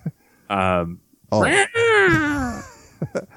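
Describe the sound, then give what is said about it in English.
A human voice imitates a cat, making a short mew followed by a longer, drawn-out wavering meow that slides downward, fairly loud, with a couple of small mouth clicks at the end. “Basically another cat noise. I don't think I've got anything else but cat noises in my repertoire.”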